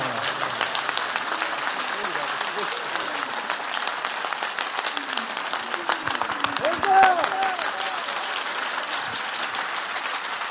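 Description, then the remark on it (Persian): A crowd claps steadily and densely for about ten seconds, a continuous roar of hand claps with a faint voice and a brief tonal sound mixed underneath. “یک کف مردونه بزن ناز قدمای آقا.”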